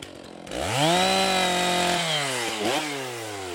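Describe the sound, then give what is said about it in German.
A chainsaw used by forest workers gathering timber for the Zipfel sawmill, heard from a meadow at the forest edge, revs up sharply, holds a loud steady buzzing whine, then bogs down with a couple of quick throttle dips near the end, with no talking. “Außer den Motorsägen der Waldarbeiter, die den Rohstoff für das Sägewerk Zipfel beschaffen.”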